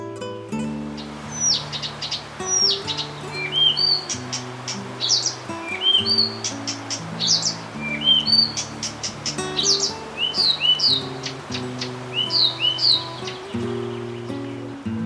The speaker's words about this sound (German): Das war der Buschrohrsänger.